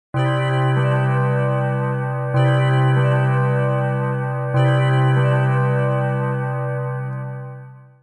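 A large tower bell tolls three times at an even, unhurried pace, each deep, resonant strike ringing on and overlapping the next before slowly fading away. No voices are heard.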